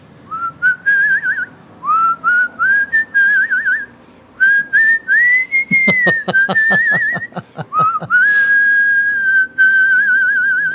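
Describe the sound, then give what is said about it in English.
A person whistles a rock tune, the clear melody rising and wavering in short phrases, with a burst of rhythmic tapping or clapping under the middle stretch. “let me wet my whistle, and I'll do a little …”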